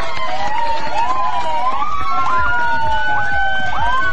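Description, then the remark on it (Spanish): An ambulance siren wails continuously in rising and falling sweeps, loud, over a busy background of crowd noise and indistinct voices, as ambulances escort the last runner, a teacher from Rengo in the O'Higgins region, to a race finish line amid cheering spectators. “Iba acompañado de ambulancias, iba acompañado del público presente ahí, niños.”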